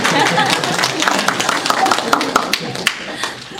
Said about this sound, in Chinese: 对，鼓掌一下。 有鼓掌。